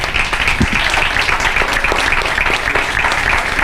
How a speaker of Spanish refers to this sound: Gracias, Manolo Solo, gracias, Álvaro Morte, gracias, Eduardo Fernández, y felicidades por el Premio Nacional de Cinematografía que recibió el otro día en Tabacalera. Sí, un aplauso.